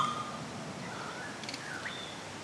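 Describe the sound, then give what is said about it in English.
Faint Lord Howe Island currawong song: a few thin whistled notes, some sliding upward, drift over a steady background hiss with no voices present. “Yeah, and they also have a different song.”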